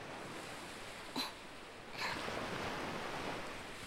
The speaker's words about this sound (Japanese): あ、最初は、この音とか、どうかな？海の音。波が、砂浜に打ち寄せて、引いていく。